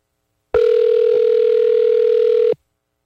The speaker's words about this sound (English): Phoning the young lad I met yesterday. He has to answer the phone with his business name.